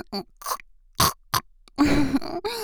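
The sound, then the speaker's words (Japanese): A person imitates a pig with a series of short nasal grunts, followed by a longer, rougher snorting oink at the end. “ほら、豚の真似だよ。こうしてやるの。”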